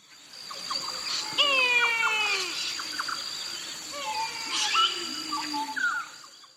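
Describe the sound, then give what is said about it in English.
A kite's thin, wavering whistled calls rise and fall in drawn-out, plaintive wails, like a baby crying, repeated in two bursts over a steady outdoor hiss of insects. “Let's have a listen to their call, which sounds, I think, a bit like a baby crying.”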